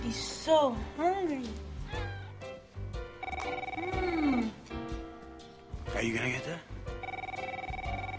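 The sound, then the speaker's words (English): A telephone rings with a steady, repeating electronic trill through the second half, left for the answering machine to pick up, while a cat meows in drawn-out, wavering cries around it. “No, I'm gonna let the machine get it.”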